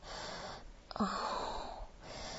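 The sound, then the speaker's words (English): Heavy, raspy breathing that grows heavier and raspier, with a breathy rush and a brief wheezy, whistling edge in the middle of a drawn-out breath, and no talking. “Just listening to my breathing as it's getting heavier and raspier.”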